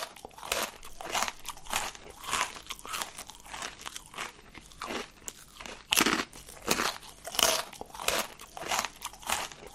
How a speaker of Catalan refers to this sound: Acabem d'escoltar el soroll d'algú que mastega, el teclejar d'un ordinador i unes ungles picant en una taula.